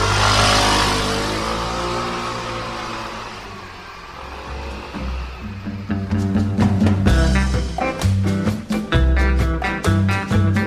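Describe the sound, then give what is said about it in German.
A motorcycle taxi engine in Prague revs loudly, then pulls away and its drone fades over several seconds before a rhythmic piece of music takes over. “Mit dem Motorradtaxi durch Prag.”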